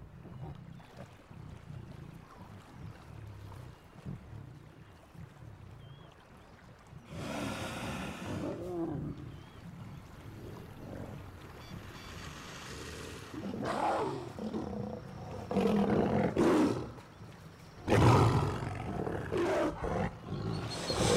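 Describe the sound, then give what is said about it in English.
Lions of a river pride roar and growl in deep, rumbling bursts while feeding on a dead hippo washed up on a river bank, the snarls swelling louder in the second half, with a low wind or water wash running underneath throughout. “The river pride feeds on a dead hippo washed up on the river's bank.”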